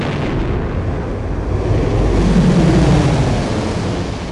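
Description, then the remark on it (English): Spaceship engines power up in a loud, continuous roar with a deep rumble, swelling midway as a low droning hum rises beneath it, then holding steady, as Joff brings the engines of the Mirror Bright online. No voices. “Joff brought the engines online and felt the mirror bright shiver around them, ready for action.”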